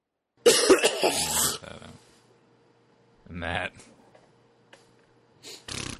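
A loud, harsh coughing fit from a person who is sick, followed by two shorter, quieter coughs spaced a couple of seconds apart, with brief throat-clearing in between.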